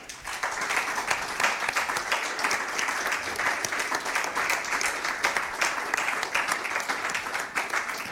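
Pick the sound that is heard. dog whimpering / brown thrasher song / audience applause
audience applause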